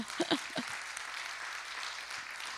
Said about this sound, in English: Yeah, let's clap, right? That was awesome.